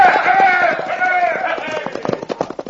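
Riders gallop off on cayuse horses, their rapid, rhythmic hoofbeats growing sharper and more distinct toward the end, following a brief stretch of sustained, wavering tonal calls at the start.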